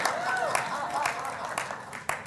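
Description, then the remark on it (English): An audience claps for the speaker's daughter in a steady, moderate patter with a few sharper individual claps standing out, while voices call and whoop underneath. “Could you give me some love or clapping for my daughter.”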